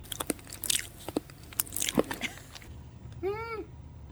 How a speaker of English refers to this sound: Here is an audio clip of me eating dog biscuits for breakfast. You ready? Eat the whole thing.